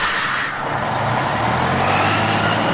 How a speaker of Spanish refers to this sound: Pues el bus. ¿Claro? Bus. Parecía más un camión de la basura, ¿eh?